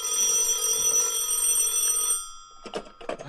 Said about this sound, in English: At 11 o'clock at night, he is in his bed and sleeping soundly. But not for long, for the telephone beside him shrills out.